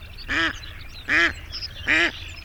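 Three loud, nasal duck quacks, evenly spaced about a second apart, stand out over a faint, steady background hum, with no talking.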